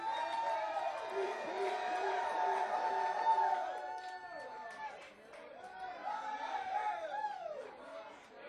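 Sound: audience applause and cheering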